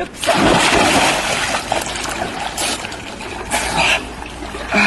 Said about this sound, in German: Im Falle der Teich-Challenge springen nämlich Zoowärterinnen und Wärter voll bekleidet in die Wasserbecken von Tiergehegen und nominieren dann Kolleginnen und Kollegen aus anderen Zoos, das Gleiche zu tun.